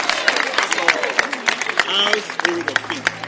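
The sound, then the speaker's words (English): An audience claps their hands in a series of sharp, fairly regular claps, with voices talking over the clapping throughout. “Clap your hands,”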